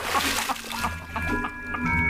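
Water splashes and sloshes in a bath in a run of irregular bursts as a person splashes water on his face, with a steady low hum in the background.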